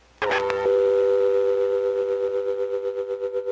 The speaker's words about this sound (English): The idea that I had was to actually use the dial tone as an actual musical instrument.